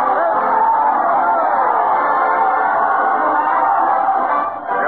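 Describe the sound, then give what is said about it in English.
A large crowd cheers and roars continuously as Fred Allen, dressed as Santa, leads his parade of stars and a band to the Old Town Hall, a loud, dense wall of voices that holds steady for several seconds before briefly dipping near the end, with a muffled, old-recording quality. “Listen to that proud cheer”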